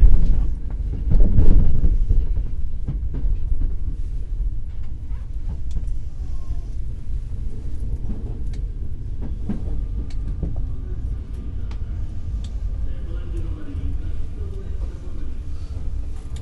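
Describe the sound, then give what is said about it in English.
Steady low rumble of a moving commuter train heading to Shibuya, heard from inside the carriage, with rattling and clunks over a constant loud drone and faint background voices. “Got a little loud before the train stops and I can get off.”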